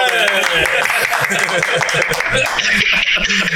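Steady, dense clapping of many hands continues without a break, loud throughout, mixed with chattering voices and bits of chuckling underneath.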